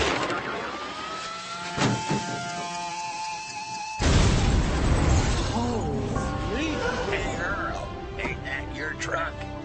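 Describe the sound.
A video game truck rumbles along with a steady engine hum, then crashes about halfway through in a loud, sudden burst of impact and shattering, followed by lingering noisy rumble and faint voices.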